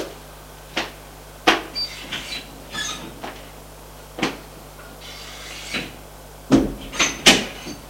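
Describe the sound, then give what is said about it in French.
A series of wooden knocks and clunks as a door is shut and latched, with sharp thumps spread unevenly across the stretch and a louder cluster near the end. No one speaks. “Une fois que la porte s'est fermée,”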